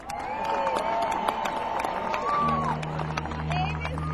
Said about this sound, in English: ladies and gentlemen, give a round of applause for ….